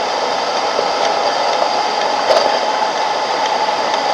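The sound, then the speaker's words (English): Water boiling, heard as a steady, continuous rushing hiss that holds at an even loudness throughout, with a slight swell partway through and no voices. “It's the water boiling.”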